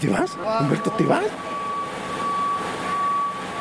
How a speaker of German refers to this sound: Der Bus, der jede halbe Stunde vom Zentrum in das 8 Kilometer entfernte Santi Ponce fährt, trifft ein.